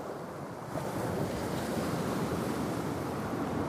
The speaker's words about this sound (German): Wind fegt über die Brandung.